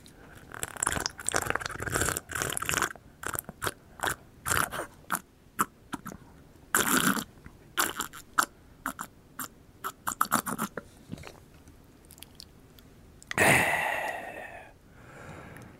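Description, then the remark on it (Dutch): Someone takes repeated sips of clean water from a small cup, with a run of wet slurping, swallowing and mouth clicks, then a loud breathy exhale near the end. “Dat ging toch aardig snel? Snel, ja, zo'n slok.”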